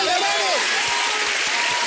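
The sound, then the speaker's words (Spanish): An audience applauds at the end of a show in a dense, steady wash of clapping that holds at an even, fairly loud level throughout, with a brief rising vocal cheer near the start. “¡Fuerte el aplauso que se acabó el plato!”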